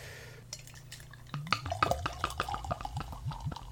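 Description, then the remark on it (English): Draft beer glugs from a full growler into a glass, poured right down the middle, a quick run of bubbly, rising gurgles with faint glassy clinks over a low steady hum, no voices; the pour builds a lot of head. “Nice pour right down the middle.”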